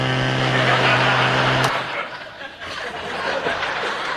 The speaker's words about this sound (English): Well, Tim, I think you should point out that that particular chainsaw is very powerful and dangerous, and should not be used without